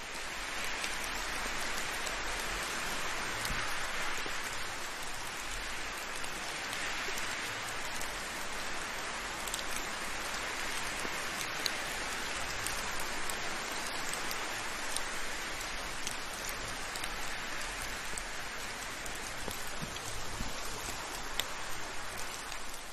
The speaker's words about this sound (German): Während du den Tropfen des Regens lauscht, mit den Geräuschen des Windes sanft folgst gibt es für dich nichts weiteres zu tun